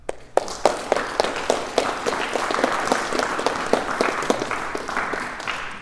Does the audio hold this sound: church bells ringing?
no